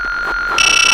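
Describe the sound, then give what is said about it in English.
A steady electronic video game beep tone sounds loudly on its own, signalling that the player is in range of a gift to catch, then shifts partway through into a brighter, buzzier, more layered synthetic tone. No one speaks. “That beeping sound tells you that you are in range.”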